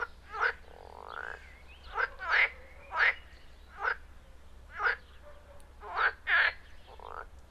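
frogs calling

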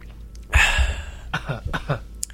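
throat clearing

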